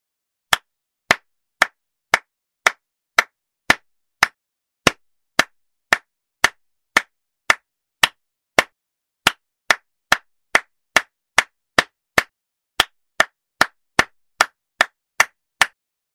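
Steady rhythmic hand clapping, about two sharp, crisp claps per second, continuing for around thirty claps and quickening slightly toward the end. No voices.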